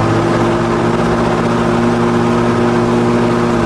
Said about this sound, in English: What was that one? The Hoover Super Duster. The Super Duster. What year is that? 1939.